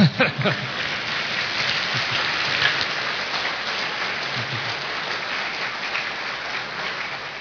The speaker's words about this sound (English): Yeah, go ahead and clap. That's fine.